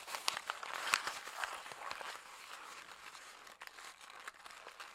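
Thick paper being wadded up to imitate the sound of fire, a steady stream of dry crinkles and sharp crackling snaps that keep going without pause and with no voices.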